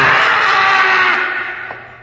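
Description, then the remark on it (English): A loud, harsh wild cat scream rings out alone, a single sustained shriek that holds strong before slowly fading away over a couple of seconds. “That is what old Manuel heard just before he died. Just before the screaming cat ripped him to shreds.”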